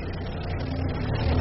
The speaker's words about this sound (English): As the car drove away from Florestrasse, the rain stopped and a patch of clearer weather came in from the east.